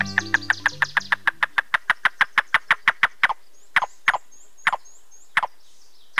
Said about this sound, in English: This staccato call tells us there's a yellow-billed cuckoo nearby, one of two species of cuckoos in the woodlands of North America.